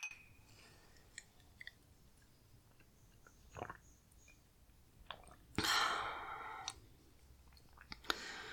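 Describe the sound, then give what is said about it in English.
Glasses of water clink together in a toast, one bright ringing chink that lingers briefly, surrounded by scattered small clicks and handling noises, with no talking. “Here you go. Cheers.”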